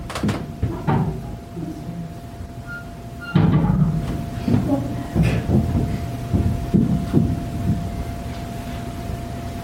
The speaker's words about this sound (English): But it almost sounds like somebody's stomping. It was walking. That's how loud all the sounds in that building transferred down to the basement.